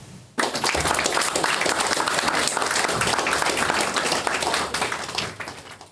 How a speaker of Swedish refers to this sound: Och där tonade applåderna ut på den föreläsning